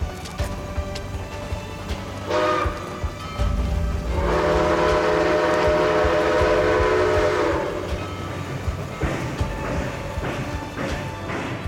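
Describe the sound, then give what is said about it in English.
A train pulls away from the station amid steady rumbling and clattering, with a loud, sustained horn blast sounding for a few seconds in the middle before the rolling noise carries on. “As the train pulled away, Agnes could feel, fading into the distance, all that she had ever cherished in this world.”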